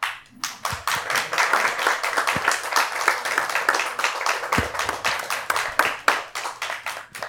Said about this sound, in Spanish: Muchísimas gracias a nuestra invitada. Démosle un aplauso, por favor. Otro.